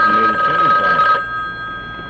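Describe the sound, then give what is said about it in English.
A private telephone rings with a steady, shrill electronic tone for about a second before cutting off, while someone talks quietly beneath it. “I had three of them, and that's the private phone on this side.”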